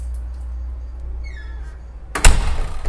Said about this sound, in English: All right, let's close this door from the outside.